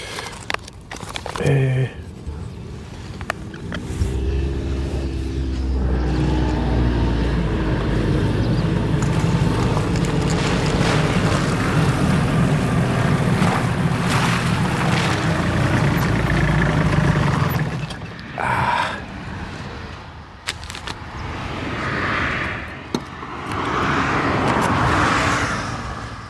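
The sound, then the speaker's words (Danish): Vehicles rumble past on a busy country road, a loud engine drone swelling and lingering for several seconds before fading, then more passing traffic whooshing by, with faint outdoor background sounds between. “Er det ikke just mest inspirerende sted at stå her lige ud til den trafikerede vej?”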